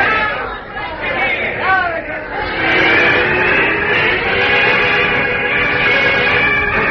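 crowd chatter

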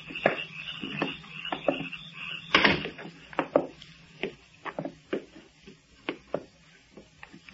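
door closing

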